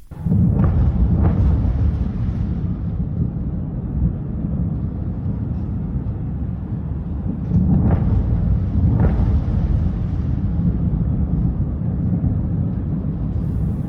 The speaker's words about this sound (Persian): انفجار وحشتناکی بود.